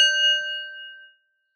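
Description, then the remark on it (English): A meditation bell is struck once, giving a bright, clear ring that hangs briefly and fades away within about a second. No voices, just the single tone alone. “And I'll start with a bell.”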